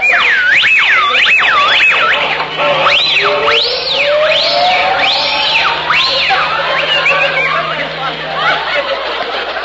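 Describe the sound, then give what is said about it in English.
A loud, shrill whistle swoops up and down in repeated wavering arcs, like a siren, over a busy background with some murmuring and faint laughter. “You know, if you want me, all you gotta do is whistle.”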